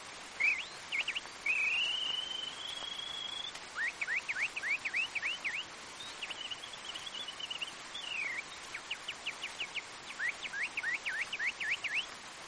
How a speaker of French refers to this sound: Le rossignol.